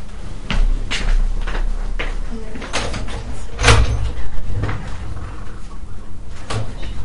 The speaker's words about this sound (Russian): Стук дверь – это хороший знак, особенно когда наш мужчина.